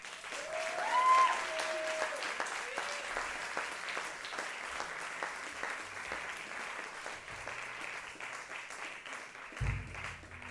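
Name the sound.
concert audience applause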